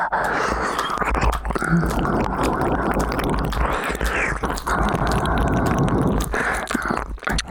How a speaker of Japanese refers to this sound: お耳の隅々までおしゃぶりしてくね。入り組んだひたひたも、このまま舌先を尖らせてお耳の中までジュブジュブ